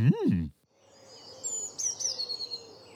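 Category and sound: bird, tit birdsong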